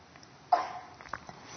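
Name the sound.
cough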